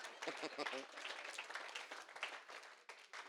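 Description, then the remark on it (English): An audience claps steadily for a few seconds, a dense wash of many hands with no clear individual beats, while voices call out and talk over it. “You can go ahead and clap. It's okay.”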